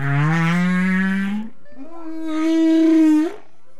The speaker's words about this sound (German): Die Wale singen einen bestimmten Teil ihres Liedes und ändern diesen, wenn sie tiefer sinken. Sind die Töne weiter oben noch hoch und langgezogen, werden sie immer tiefer, je tiefer auch der Wal taucht.